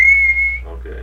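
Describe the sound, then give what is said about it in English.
A single long, steady, loud whistled tone held for about half a second, imitating the call used to summon a child outdoors to meals, then fading into quiet room noise with a faint rising trace afterward. “Can you imitate the intonation? Long whistle.”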